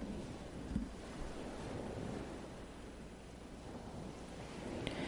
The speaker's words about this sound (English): It's just the ocean.